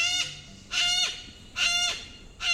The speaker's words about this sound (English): Yellow-crested cockatoos are victims of their own charisma. Talkative and sociable, they stand over a foot tall, with snowy white plumage and a showy yellow crest.